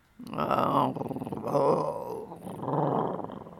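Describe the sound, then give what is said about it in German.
A lion in the Serengeti growls in three deep, rumbling bursts, loud, each swelling and fading with short pauses between, with no talking. “Ah, im Serengeti, wo die Löwen wohnen.”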